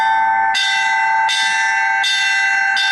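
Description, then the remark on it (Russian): Church bells ring out in a festive peal: four loud, evenly spaced strikes, each leaving a bright, shimmering tone that hums on beneath the next. No voices are heard. “считалось особым выражением радости для всего народа устроить колокольный перезвон, поднявшись на колокольню.”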